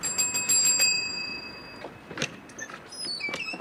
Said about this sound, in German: Wer sind Sie? Sie haben geläutet.